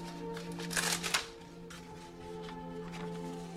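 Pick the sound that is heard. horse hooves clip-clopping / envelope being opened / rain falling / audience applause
envelope being opened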